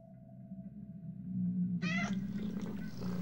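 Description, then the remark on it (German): A cat lets out a loud, drawn-out meow, strained like a caterwaul, after a low droning hum that continues beneath it. “Katze.”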